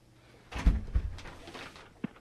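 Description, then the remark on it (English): A door swings and thuds shut, a couple of low knocks followed by some shuffling and a final softer bump, all fairly quiet with no talking. “Oh, I gotta shut the door.”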